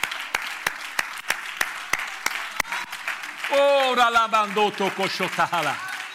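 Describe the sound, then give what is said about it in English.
A church audience claps hands unto the Lord in a steady rhythm amid a general murmur, then the beat gives way to loud overlapping voices calling out over the noise. “Clap your hand unto the Lord.”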